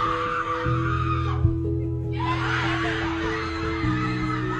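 A basketball team screams and cheers excitedly while jumping for joy, voices overlapping in a loud, continuous burst of celebration with some laughter, energetic, with a brief dip midway before the shouting surges again.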